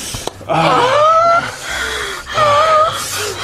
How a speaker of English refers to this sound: She barely got the tip in and then she took her mouth off. And then a couple seconds later, she started gasping. What is going on?